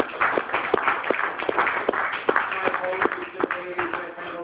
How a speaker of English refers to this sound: Big round of applause for the show.